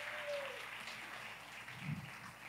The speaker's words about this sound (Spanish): Un aplauso a Dios por sus pastores. Y denle un aplauso a Dios por la bendición.